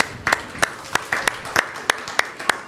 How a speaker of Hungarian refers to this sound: Köszönjük azokat is, akik vendégeink, akik most vannak itt először Isten tiszteleten. Látok ilyen arcokat is. Köszöntsük őket egy tapssal.